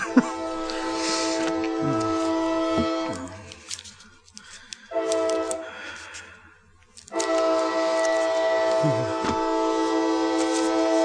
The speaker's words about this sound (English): There goes the train.